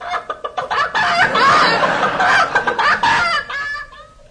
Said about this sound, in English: chicken.